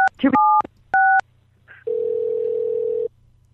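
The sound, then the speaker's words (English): A few short, sharp telephone keypad beeps dial a three-digit extension in quick succession on a call to a Home Depot automated phone line, followed by a brief chirp and then a long, steady electronic tone holding for over a second, loud. “If you know the three-digit extension of the... That's it. Okay, I'll do this. Please enter the extension number now.”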